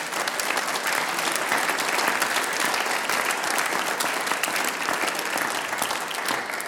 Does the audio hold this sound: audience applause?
yes